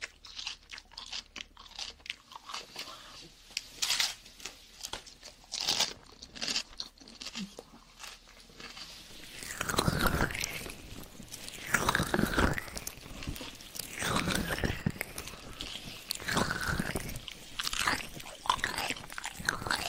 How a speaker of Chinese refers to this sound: 来一段咬的音，咬，咬了吧。